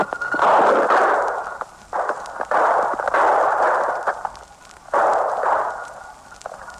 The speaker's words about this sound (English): the field reporter literally was on the firing line with police during the capture, relaying the entire proceeding with a mobile shortwave transmitter. Listen closely now, and you'll hear the actual gunfire and the excitement that follows.